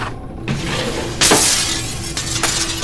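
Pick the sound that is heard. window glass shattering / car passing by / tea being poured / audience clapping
window glass shattering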